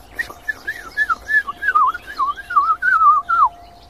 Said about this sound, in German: Dieses helle, klare Flöten, das schafft nur die Mönchsgrasmücke. Ja, dieses.